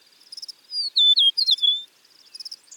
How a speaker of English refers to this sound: People enjoy the look and sound of the Western meadowlark so much that this is the official state bird for six U.S. states: North Dakota, Nebraska, Wyoming, Montana, and my home state of Oregon.